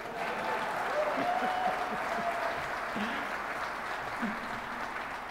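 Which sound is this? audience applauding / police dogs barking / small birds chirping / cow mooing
audience applauding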